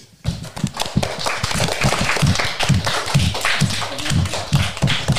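An audience claps for about five seconds after a beatbox performance, a dense, steady patter of many hands starting abruptly and holding at an even level, with some heavier rhythmic thumps underneath.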